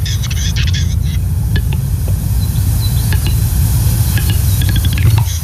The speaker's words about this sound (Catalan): Sí, això, el gall fer només canta quan es reprodueix, que és a la primavera, al mes de maig.